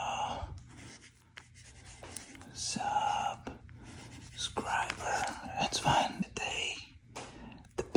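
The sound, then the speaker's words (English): A pencil scratches across paper in quick, uneven strokes with brief pauses, filling in a prescription on an Rx template, while a soft whispering voice murmurs underneath. “Love my pencil, by the way.”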